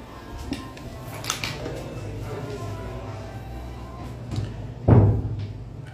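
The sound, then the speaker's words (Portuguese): A door swings shut and lands with a solid, low thud near the end, after a few lighter clicks and knocks against a steady background hum. “É bom já fechar a porta para ir qualquer som.”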